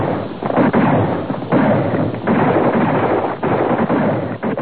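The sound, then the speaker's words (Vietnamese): A loud, sustained rumbling roar of an explosion blast throwing up a column of smoke and red earth dust, dense and continuous for several seconds with brief dips and surges, with no voices. “Tiếng nổ rền rĩ bay ra theo đám khói ấy.”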